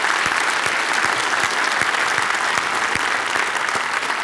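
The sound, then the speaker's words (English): A large crowd applauding to cheer on those who stood up as the first in their family to believe in Jesus Christ, a dense, steady wash of clapping that holds at full strength throughout, with no voices standing out. “Let's as a family cheer you on.”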